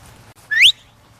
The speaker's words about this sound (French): Donc les chiens, ils ont bilingue, ils prennent tous leurs commandes en voix, ils connaissent toutes leurs commandes en voix et en sifflet. Et donc là, ça que je sifflais, c'était juste d'avancer dans une ligne droite.